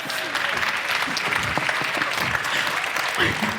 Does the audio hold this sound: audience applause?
yes